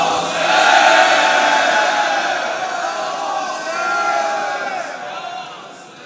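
A large crowd shouts "Ya Hussein" together in one sustained, loud collective cry, swelling at the start, surging again midway, then fading out.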